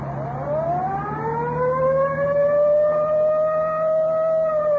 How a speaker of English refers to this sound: I'll get the siren.